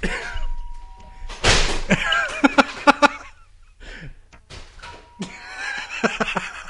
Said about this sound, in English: Is that him ringing your doorbell right now? No, that's him going inside and outside of the house and slamming things.